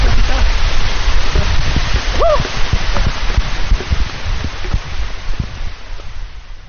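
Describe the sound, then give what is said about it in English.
A heavy downpour on an outdoor trail roars steadily, a dense, loud hiss with scattered patters of drops, and one brief rising-falling call cutting through midway. “It's still raining, you know, but... not like it was. Yeah. That was a pretty heavy downpour.”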